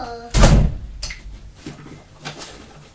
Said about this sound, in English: can you shut that door for me, please? The door is there.